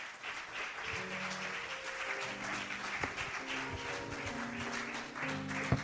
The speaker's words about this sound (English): Come on, let's give him a hand clap of praise.